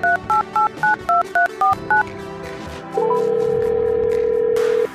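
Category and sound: signal or alarm, telephone number being dialed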